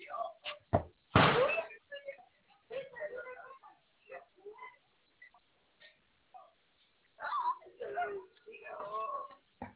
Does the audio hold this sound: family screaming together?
no